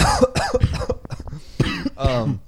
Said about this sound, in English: I'm going to cough, but whatever. I never cough.